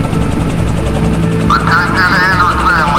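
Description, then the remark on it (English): A U.S. Army helicopter landing, its loud, steady rotor rumble with a rapid low chop throughout, joined halfway by a high, wavering whine that rises and falls over the noise. “Hate to break this up, but that helicopter is landing right in front of us.”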